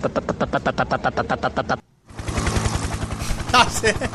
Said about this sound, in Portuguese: Depois eu entro em contato, posso falar agora não, tô no helicóptero.